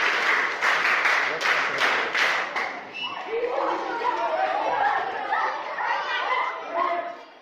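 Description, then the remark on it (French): An audience bursts into a few seconds of lively applause, then the clapping fades into a crowd of children's voices chattering and calling out nearby. “Alors applaudissez pour vous.”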